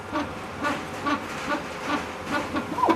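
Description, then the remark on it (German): A 3D bioprinter needle, printing an alginate-based hydrogel at a TU Dresden Medical Faculty research centre, makes a buzzy, rasping whir. It repeats in short pulses about twice a second, roughly seven in a row, at moderate loudness with no one speaking. “Also Sie hören dieses Schnarren gelegentlich, das ist eigentlich das charakteristische Geräusch.”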